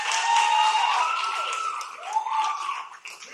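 An audience claps in a dense, steady wash of applause, with a few rising and falling whistle-like tones riding over it, fairly loud throughout and fading slightly near the end.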